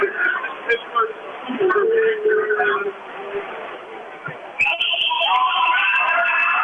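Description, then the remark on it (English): A loud, sustained high referee's whistle blast for a foul by Brocky cuts in partway through and holds to the end, over a steady noisy crowd murmur at a game between the Comets and the Eagles. “Liddell with a drive, jump stop, block by Brocky, and we'll get a whistle.”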